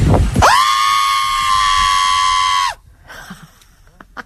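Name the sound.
person screaming loudly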